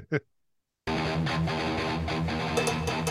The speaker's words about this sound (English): Cowbell.